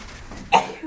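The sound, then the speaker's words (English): One quick, sharp sneeze bursts out of the quiet, a brief explosive puff of breath that fades almost immediately, with no talking around it. “Bless you.”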